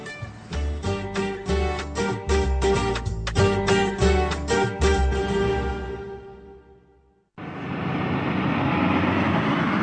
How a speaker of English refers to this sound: I'm in Uzbekistan, deep in Central Asia, dodging the trucks. It's hairy, but I like it because I know what lies at the end of the journey.